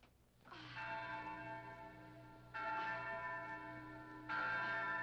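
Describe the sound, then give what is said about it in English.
A large bell rings out loudly to summon men, struck three times at slow, even intervals, each toll sustaining and overlapping the next with a rich, shimmering hum. No voices accompany it. “Oh, well, ring the bell,”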